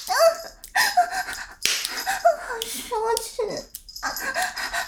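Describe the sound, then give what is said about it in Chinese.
A woman's voice imitates a dog, giving a string of short, high yips and whimpering barks in quick bursts, fairly loud, with a brief spoken exclamation mixed in. “怎么听到姐姐狗叫更兴奋了呀？”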